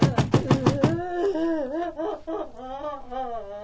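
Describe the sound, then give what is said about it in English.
A quick run of about six loud knocks on the door of the room next door, followed by a wavering, whimpering vocal sound that rises and falls in pitch. “Hey, is this your door? Can you listen up in there?”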